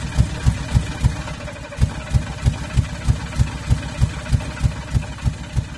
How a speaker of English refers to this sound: Not everyone was in favour of the motor car. Some people called it the horseless carriage. It was noisy, it created more dust on the roads, and it travelled much faster than the horse and cart.